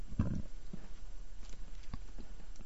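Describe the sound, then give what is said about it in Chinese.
Light footsteps tap along a corridor, a handful of soft, unevenly spaced steps after a duller thump at the start, heard alone against a quiet, slightly hissy background. “他等了好半天，终于走廊里传来了一阵脚步声，很轻。”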